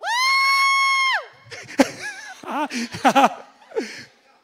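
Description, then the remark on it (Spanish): A loud, sustained joyful cry opens, followed by a scattered burst of shorter whoops and shouts from several people, the single people in an audience cheering on cue, then tapering off. “Levanten la mano, un grito de júbilo, los solteros.”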